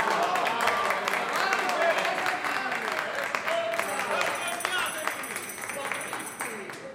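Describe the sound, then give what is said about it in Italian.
An audience applauds steadily, a dense wash of many hands clapping at an even level throughout, with murmured voices mixed into the crowd noise. “Questi vostri applausi sono la conferma precisa della fondatezza del mio ragionamento.”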